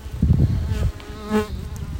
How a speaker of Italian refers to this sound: Ci sono anche molte mosche, oltre ai colpi.